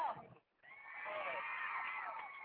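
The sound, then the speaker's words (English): In an arena, a horse bucking its cowboy rider while pulling a rope lets out a brief sound, then a long, loud, shrill whinny lasting a couple of seconds, over a busy, noisy background. “Cowboy's getting bucked by his horse again.”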